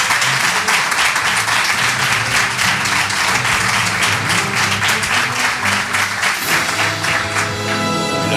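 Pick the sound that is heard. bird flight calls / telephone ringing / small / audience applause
audience applause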